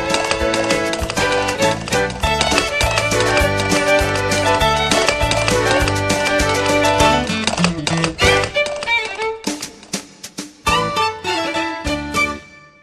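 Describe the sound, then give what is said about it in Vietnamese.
Steady, rhythmic clip-clop of the hooves of a horse pulling a carriage as it dashes forward, mixed with a full, sustained musical backing that thins out toward the end, leaving sharper, more scattered taps. “Chiếc xe ngựa phóng lên phía trước vuông vút.”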